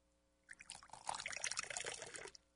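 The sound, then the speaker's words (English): A water cooler bottle, with a microphone placed down by it, glugs and bubbles for nearly two seconds, a burbling gush of water with irregular bubbly pulses as a bubble comes up, no voices over it. “You flirted with a glug there. A bubble came up.”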